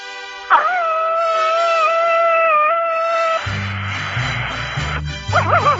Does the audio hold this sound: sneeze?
no